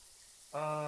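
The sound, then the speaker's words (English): Steady, soft hiss of shower water running, joined about halfway through by a sustained, louder voice sounding over the spray. “I'm almost done with the shower.”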